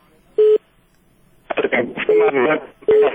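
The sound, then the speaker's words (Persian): A caller's phone line to a call-in programme drops out with short electronic beeps: one alone, then more sounding over a burst of garbled talk, the tones steady and fairly loud. “متاسفانه تلفن قطع قطع کیجی.”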